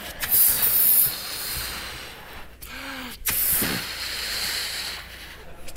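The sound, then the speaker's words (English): A balloon is inflated with loud, breathy rushes of air in several bursts, a hissing whoosh with brief pauses between puffs and no talking. “See how this works? It's still the same balloon.”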